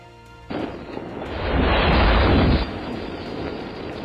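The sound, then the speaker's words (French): A pyre is set alight: a sudden whoosh as flames catch, swelling into a loud, roaring blaze for a couple of seconds before settling into a lower, steady rushing crackle. No one speaks. “Allumez le bûcher.”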